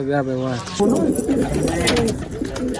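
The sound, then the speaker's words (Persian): A 17-year-old pigeon keeper's pigeons coo on a rooftop in Kabul in low, throaty, rolling bursts, one after another, over a busy outdoor background with faint muffled voices. “هر روز صبح برای تماشای پرواز کفترایش در آسمان کابل بالای بام می آیم.”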